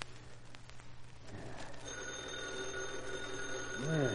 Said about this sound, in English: Holy crow, who's phoning at this hour? Why don't Reed answer?